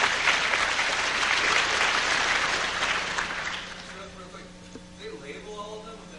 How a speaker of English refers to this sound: Yes, it is Peterson International. Very good. Applaud for the man. He knows cool shit.